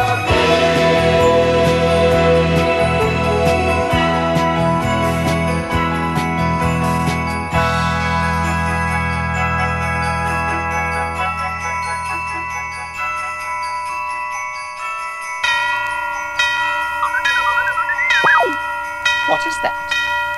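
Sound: bells ringing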